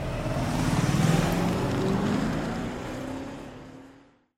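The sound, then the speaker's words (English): A car accelerates to pass a truck on the road, its engine droning and rising in pitch over a loud rush of wind and tire noise before quickly fading out. “It looks like I need to pass a truck here.”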